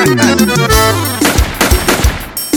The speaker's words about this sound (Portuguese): Ou é tiro ou é alguém batendo na porta aí? Olha o tiro.